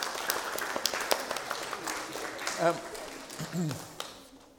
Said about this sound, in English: But I think she deserves a special round of applause. Can we have that?